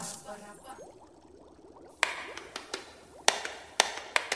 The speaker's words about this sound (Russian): Я не слышу. Слышу только, как Нолик стучит. Нолик, ты что делаешь? Репетирую. Он у нас в рок-группе на барабанах играет.